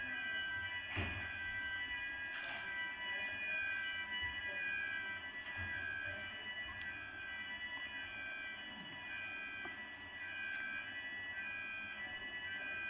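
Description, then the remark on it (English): A fire alarm blares continuously during a class, with steady, piercing high-pitched tones at a constant loud level and a few faint knocks and shuffles beneath it. “okay, that is fire alarm. We should check.”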